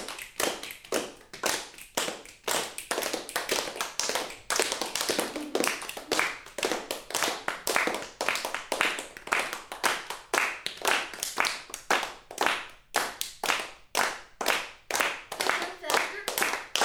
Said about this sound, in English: You can hear there's different ways of clapping. Deeper clap, higher clap.